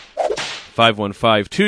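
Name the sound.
whip crack sound effect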